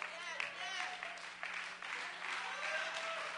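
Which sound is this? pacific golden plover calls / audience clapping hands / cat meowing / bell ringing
audience clapping hands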